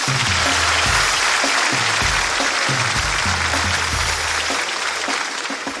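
A crowd claps loudly and continuously to open a show section called Tengo Algo Que Decir, a dense steady roar of many hands that barely fades across about six seconds, with a faint low throb underneath.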